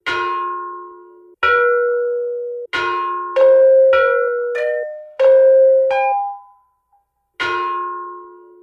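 A set of ancient bronze bells, of the same style as those at the Smithsonian, struck one at a time in a slow melodic sequence, each clear metallic tone ringing out and decaying, with a few notes overlapping; no voices.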